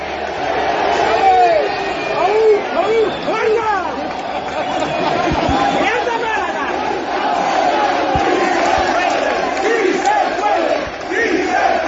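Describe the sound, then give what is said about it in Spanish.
A large crowd of about 800 Limasa workers, at an assembly where they voted to continue their strike, shouts and chants the slogan 'sí se puede' together, many voices overlapping in a loud, steady roar with rising and falling cries throughout. “Pues al grito de sí se puede, se manifestaban claramente los trabajadores.”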